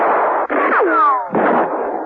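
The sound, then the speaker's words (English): A loud, dense burst of gunfire with sharp cracks and a whining ricochet sweeping downward in the middle, then more rapid shots right after. No voices are heard. “Verno and Smanoff, hearing the firing, gave up banging on the door and returned to the action.”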